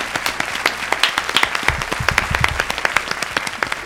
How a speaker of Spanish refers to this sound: un gran aplauso, por favor. Muchas gracias.